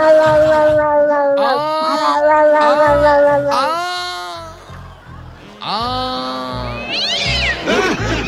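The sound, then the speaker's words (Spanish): A voice imitates a cat in heat, letting out a string of long, wavering yowls and rising wails, loud, with brief breaks between cries. “Era un gato en celo.”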